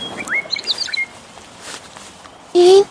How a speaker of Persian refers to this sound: جویباری میون علف های بلند جاری بود و از دور دست صدای کوکو شنیده می شد.